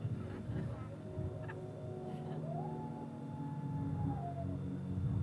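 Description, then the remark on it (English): Coyotes howl in long, wavering, rising cries that carry over a steady background rush. No one speaks. “Don't mind the coyotes.”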